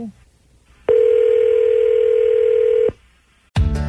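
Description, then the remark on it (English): A loud, steady telephone dial tone hums for about two seconds, then cuts off, and after a short pause a burst of dialing-like sound begins at the very end as someone calls a cell phone. “So I'm going to call up his cell phone.”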